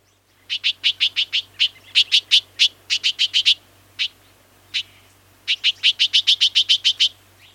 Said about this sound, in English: It's a bird, obviously. Now let's listen to its warning call.